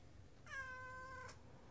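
A single drawn-out meow from Pepper, a pet cat, clear and rising slightly then holding steady for under a second against a low background hum; no talking.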